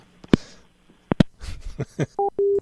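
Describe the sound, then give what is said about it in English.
A collect telephone call being put through: several sharp clicks and line noise, then a few short electronic beeps ending in a steady tone, fairly loud with no voices. “I'll go ahead and put the call through.”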